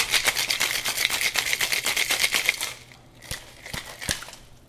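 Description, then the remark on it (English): A cocktail shaker holding a drink of Del Maguey Chuchicapa mezcal, yellow chartreuse and Aperol rattles in fast, steady strokes for almost three seconds, a bright, loud clatter of ice, then stops and a few sharp single clicks follow. “All right, so we're going to shake it.”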